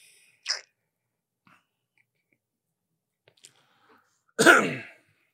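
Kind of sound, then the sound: human body sound, coughing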